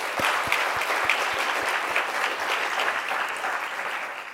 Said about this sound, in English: Excellencies, ladies and gentlemen, let's thank our distinguished panelists for such an excellent engagement and discussions that we have brought today. So let's give a round of applause of hand to the panelists as well.